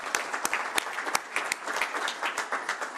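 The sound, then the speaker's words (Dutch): An audience applauds steadily, many hands clapping in a dense, continuous patter with a few sharper individual claps standing out, moderately loud throughout. “Zullen we applaus vragen?”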